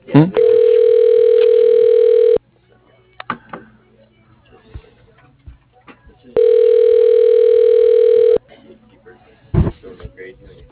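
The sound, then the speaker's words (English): Two loud, steady telephone beeps, each a flat mid-pitched tone lasting about two seconds, separated by a gap of roughly four seconds filled with faint background noise. “Can you hear me that beep right there?”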